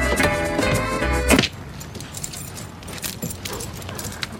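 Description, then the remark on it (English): A steady low hum gives way to a single solid thunk as a blue car door shuts in a school parking lot, followed by quieter scattered clicks and a faint jingle, like keys. “And closes the blue car door.”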